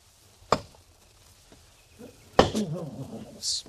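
Two sharp, heavy thwacks of an axe chopping wood, spaced about two seconds apart, the second followed by a brief rustling clatter and a faint high chirp at the end.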